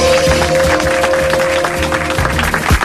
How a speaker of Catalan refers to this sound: Perdoneu una cosa, molta gràcia per aquest aplaudiment. No me'l mereixo, o una miqueta sí, depèn del dia.